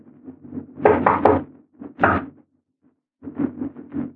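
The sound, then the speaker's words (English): Knocking on a locked door in three quick clusters with short pauses between them, fairly loud, the final group a run of several rapid raps. No voices are heard. “Now the door's locked. Open up, Doc, it's us!”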